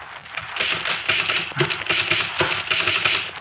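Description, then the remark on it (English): A typewriter clatters away on its own in a fast, steady stream of keystrokes, dense clicking that continues without pause for a few seconds, with no voices. “Come here, look at my typewriter.”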